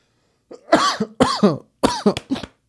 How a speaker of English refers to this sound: Oh, shit. Nigga coughing. Nigga probably still sick from that goddamn In-N-Out.